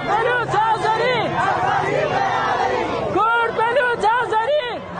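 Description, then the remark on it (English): A large crowd of mourners in Iran chants slogans, including "Kurd, Baloch, Azeri equal freedom," in loud, rhythmic unison, many voices rising and falling in repeated phrases, dense with some shouting mixed in. “The crowds chanted "Kurd, Baloch, Azeri equal freedom," expressing a hope that Iranian ethnic minorities can achieve freedom through unity.”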